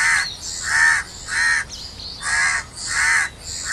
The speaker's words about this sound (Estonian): Mustrastas lõpetas oma laulu, millesse kostis varese kraaksatus.